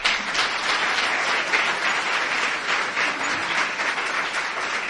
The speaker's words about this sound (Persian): خودتون و آقای مهندس رو تشویق کنی.